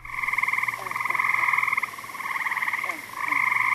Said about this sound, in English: This week, we have a trilling episode. That is, we feature the different trilling calls of two frog species that are indistinguishable to the naked eye. Have a listen for about 20 seconds to the two species' male breeding calls